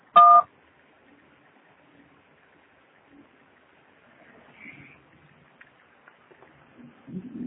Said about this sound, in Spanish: No puedo contestar su llamada ahora. Después del tono, grabe su mensaje.